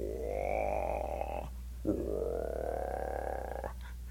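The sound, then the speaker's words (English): Two long, deep droning bullfrog calls, each a sustained resonant groan lasting over a second, separated by a brief pause, fairly loud with no talking. “Big bulls.”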